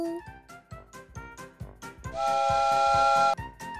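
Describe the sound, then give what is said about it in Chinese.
A toy train chugs in a quick, steady rhythm as it is about to depart, then lets out a loud, sustained multi-tone whistle lasting about a second before cutting off abruptly. “小火车准备开动喽”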